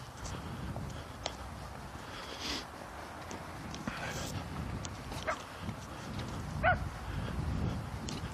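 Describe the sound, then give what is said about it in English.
A loose dog running ahead on a walk gives a few short, scattered barks and a brief whimper, stopping to bark, over a steady low outdoor rumble like wind or footsteps. “You're not supposed to be running loose, doggy.”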